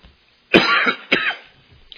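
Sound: coughing fit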